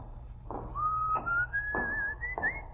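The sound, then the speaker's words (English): A person whistles a thin, steady tone that slowly rises in pitch, coming out of a door down the hall of a building, accompanied by four dull, evenly spaced thuds like footsteps over a low background rumble. “What's your whistling?”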